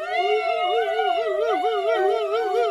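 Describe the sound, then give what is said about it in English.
A crowd of voices loudly wails together, as loud as they can, in imitation of a police siren, a sustained rising-and-falling howl of overlapping pitches that carries on steadily for a few seconds. “And three, as loud as you can, be a police car.”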